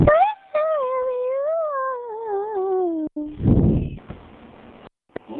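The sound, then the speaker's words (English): A dog howls in a long, wavering, tuneful wail that rises and falls like singing, followed by a short breathy huff and a few softer sounds. “Sing like my dog.”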